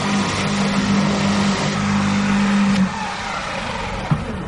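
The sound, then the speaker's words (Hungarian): An electric lawn aerator runs in a small garden with a steady, low motor hum over a broad whirring noise; the tone cuts out after about three seconds, leaving a softer rumble and one brief knock. “Ez egy elektromos szellőztető? Elektromos szellőztető.”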